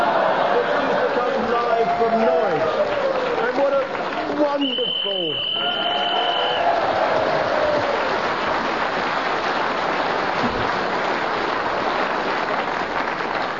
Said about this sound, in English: I must thank our audience here for that wonderful cheer you gave for Sale of the Century